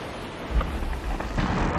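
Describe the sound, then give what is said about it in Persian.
Steady rain hisses throughout while low, muffled thunder rolls and rumbles underneath in a couple of heavier swells, during a storm on the beach of Muir Island, with no voices present. “جزیره مویر حسابی طوفانی و ایکس من تو ساحل زیر بارون وایسادن”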